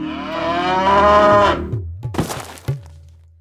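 A cow lets out one long, loud moo lasting about a second and a half, then a few dull thuds and knocks follow. No one speaks.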